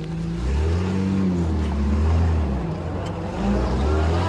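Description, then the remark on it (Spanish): A car engine hums steadily, its low pitch rising and falling as it revs gently while the car makes a couple of maneuvers to turn around and head back the way it came, with no voices over it. “Hace un par de maniobras, da la vuelta y deshace el camino andado.”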